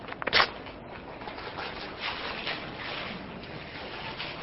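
A sharp, crackly burst of paper tearing opens, followed by a steady wash of rustling and ripping noise as dollar bills handed out to people in front of the speaker are ripped in half, with no voices.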